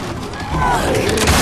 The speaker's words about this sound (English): It is Mol'Garath, a grotesque-looking ogre with razor-like teeth and horns in its back, who punches down the door, sending the Graces flying.